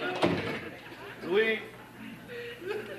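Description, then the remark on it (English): A door shuts with a single short thud right at the start as George closes it, followed by murmuring voices and a bit of light laughter. “George closes the door.”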